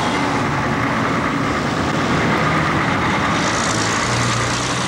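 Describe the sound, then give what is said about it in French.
A bus engine rumbles steadily for several seconds, its drone shifting slightly in pitch as the bus departs at noon, with broad road noise filling the background and no voices. “Départ des bus, midi.”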